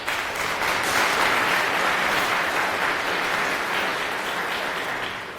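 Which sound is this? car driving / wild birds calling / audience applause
audience applause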